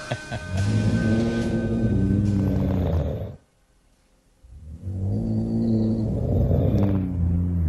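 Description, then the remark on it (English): Two long, loud snores separated by a quiet pause, each a deep, rattling rumble with harmonic buzz and a breathy, raspy texture across the inhale. “Close. That is snoring.”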